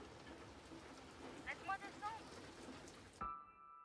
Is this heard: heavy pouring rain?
yes